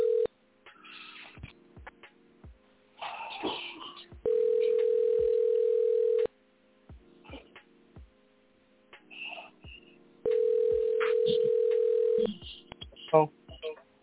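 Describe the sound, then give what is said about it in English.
A telephone line with a steady, low-pitched dial tone sounding twice for about two seconds each, separated by clicks and handling noise, then a quick run of dialing beeps, as a call is placed to a show guest. “Let's go ahead and get this pioneer on the phone right now.”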